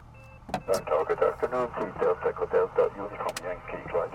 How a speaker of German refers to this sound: Jetzt tun ich funken. Delta Echo Delta Uniform Yankee, wir sind bereit.